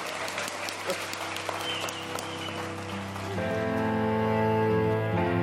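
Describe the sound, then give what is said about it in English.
A crowd claps steadily in dense, crackling applause for Greg Davis and Barry Castagnoli; a few seconds in, a louder tonal music track with sustained notes begins over the fading clapping. “Please give a massive round of applause for Greg Davis and Barry Castagnoli, everybody.”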